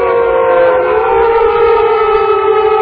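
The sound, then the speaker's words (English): A wolf howls in a long, loud, steady wail that holds a fairly even pitch and sinks only slightly for about three seconds, with no talking. “Hey, I hear another wolf howling.”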